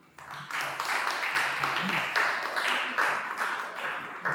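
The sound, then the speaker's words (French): An audience breaks into steady applause for the services and representative of the Ministry of Communication, a dense crackle of many hands clapping that starts abruptly and holds at an even, fairly loud level for about four seconds. “Nous pouvons également les applaudir.”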